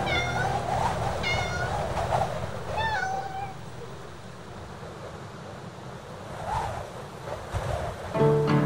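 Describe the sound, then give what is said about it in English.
Several plaintive meows from a cat on a prairie, spaced a second or two apart, heard over a steady rushing wash like surf or wind that fills the background throughout. “Um gato na pradaria.”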